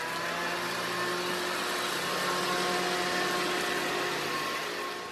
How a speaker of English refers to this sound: Oh, that's a shredder.